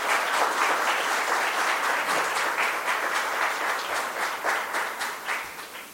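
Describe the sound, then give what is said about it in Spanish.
A crowd at an economic research award event applauds the third-place study on lending interest rates and delinquency in Nicaragua's banking system, dense overlapping claps forming a sustained wash of sound that holds for several seconds before starting to thin and taper at the end. “Un aplauso, por favor.”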